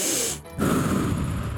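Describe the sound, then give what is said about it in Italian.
A deep breath drawn in, a breathy rushing inhale with a brief pause before a fuller, noisier stretch of air. “Quindi facciamo un bel respiro.”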